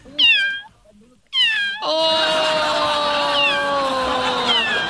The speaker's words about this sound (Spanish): Chiquillo, se perdió un gatito. Ahí anda.